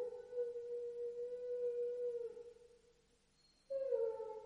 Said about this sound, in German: Aus irgendeinem Grunde heulen die Hunde.